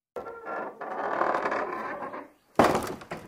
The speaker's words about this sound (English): It's a door.